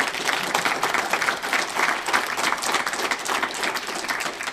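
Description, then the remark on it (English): Steady applause from an audience at a Freedom From Religion Foundation fundraising gathering fills the whole stretch, a dense wash of many hands clapping at once, fairly loud, with no break or voice rising above it. “And don't just clap because he didn't do something.”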